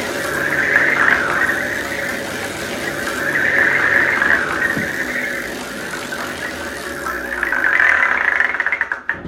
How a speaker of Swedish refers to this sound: Som vi ska lotta fram eller snurra fram. Ja. Ja. Jag sätter fart på snurran.